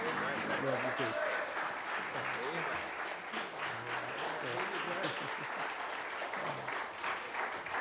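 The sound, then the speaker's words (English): A church audience applauds the pastor steadily for several seconds, a dense wash of clapping, with scattered voices and cheers mixed underneath. “Y'all give the pastor a round of applause.”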